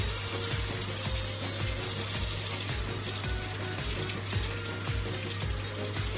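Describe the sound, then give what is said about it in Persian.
Water sloshes and splashes steadily in a large bowl of water as pomegranates are washed and seeded, with irregular wet bursts and clicks, over a constant low hum from a wall-mounted boiler, with a refrigerator sometimes running. “حالا این صدایی که شما میشنوید صدای آبه که من دارم انار.”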